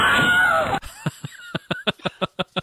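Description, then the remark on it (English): The Wilhelm scream sound effect: a short, loud, wavering shriek lasting under a second, followed by a quick run of evenly spaced, punchy bursts. “The Wilhelm scream never gets old, my friend.”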